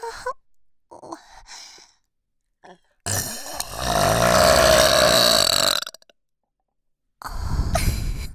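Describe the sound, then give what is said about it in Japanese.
A long, loud, rumbling burp drawn out for several seconds, followed after a brief pause by a second shorter burp, with no talking. “はーい、射精専用エロゲップでおもらしどうぞ。”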